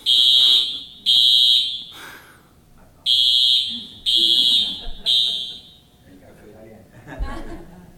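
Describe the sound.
A loud, shrill fire alarm sounds in repeated sharp bursts, two quick blasts, a pause, then three more, with faint voices murmuring underneath and some quiet chatter after it stops.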